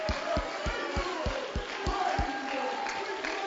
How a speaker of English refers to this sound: Oh, clap your hands and give Him praise.